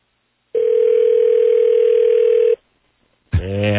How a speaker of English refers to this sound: I'm trying the general manager now on his cell phone. I remember the number now. I hope this is him.